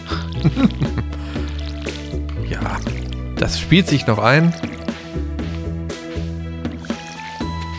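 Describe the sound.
Water splashes and drips steadily as a wild flower bed is watered, as it is every day, a wet, uneven trickle running the whole time beneath a person talking and a steady tonal backdrop.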